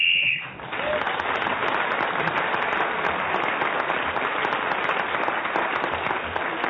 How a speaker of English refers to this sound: Clement Freud was speaking then as the whistle went, so he gained an extra point for doing so